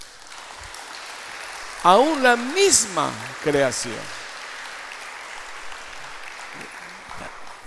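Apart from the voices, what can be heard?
audience applauding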